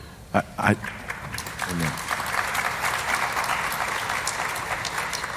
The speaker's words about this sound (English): Y'all didn't have to clap for me. That's all.